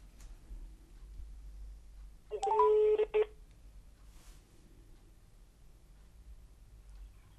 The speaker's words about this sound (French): Il téléphone à un garage.